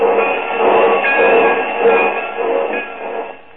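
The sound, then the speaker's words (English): A train standing at a station, giving off a steady, fairly loud hiss and rumble with a faint ringing whine running through it, with no voices. “The porter's helping him off the train.”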